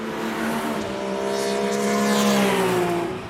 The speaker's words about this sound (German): Die Motoren von aufgemotzten Sportwagen dröhnen auf dem Hockenheimring. Der Deutsche Sportfahrerkreis hat wieder mal zum freien Fahren eingeladen. Das heißt, Motorsportfans drücken auf der kurpfälzischen Rennstrecke ordentlich aufs Gas.